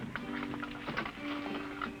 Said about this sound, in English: What are you doing? Like shoving a chair under the doorknob.